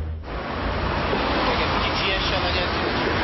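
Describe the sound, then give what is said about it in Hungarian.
A steady, dense wash of road traffic jammed outside a school in central Szeged, Hungary, at the 7:30 to 8 morning rush hour, with engines and tire noise blending into one continuous roar that holds a constant loudness throughout. “Szokásos tulekedés egy szegedi belvárosi iskola előtt. Minden reggel 7:30 és 8 között megbénul a közlekedés.”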